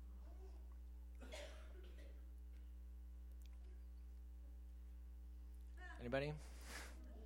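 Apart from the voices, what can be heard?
people coughing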